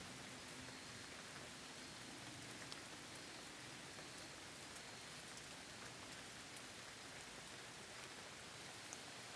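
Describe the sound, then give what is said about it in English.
Steady rain falls continuously, a dense even hiss with faint scattered drop ticks across the whole stretch, moderately soft, with no voices. “I command rain, the beautiful, simple rain, to release the wildfires around the world. Let it rain.”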